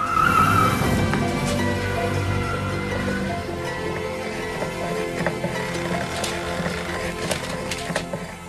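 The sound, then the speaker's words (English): Poe's car, with the children inside, drives along steadily, its engine hum and road rumble filling the scene, with a brief high squeal near the start and occasional knocks and rattles. “The children are in Poe's car.”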